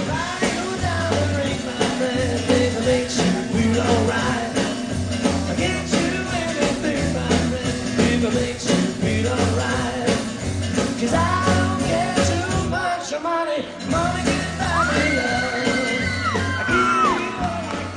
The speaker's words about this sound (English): Six teenage girls lean their elbows on the stage, singing, screaming, and swaying side to side.